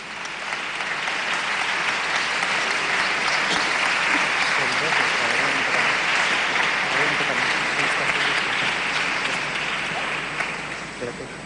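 Sustained applause from a crowd at a Festa Major de Sant Bartomeu event, honouring a student who finished fourth year of ESO with a 9.5 average and does rhythmic gymnastics, a dense crackle of many hands clapping steadily for about eleven seconds, fairly loud throughout before tapering slightly at the end.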